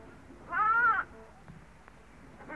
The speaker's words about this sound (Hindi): जब भेड़ ने गडरिये को देखा तो बड़ी प्रसन्न हुई। उसने एक बार फिर आवाज दी।